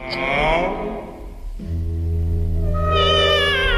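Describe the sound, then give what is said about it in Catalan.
Trained operatic voices imitate cats, gliding in meow-like sung phrases; a low sustained tone joins midway, then a high voice enters with wavering vibrato, loud. “també li agraden els gats, a Ravel?”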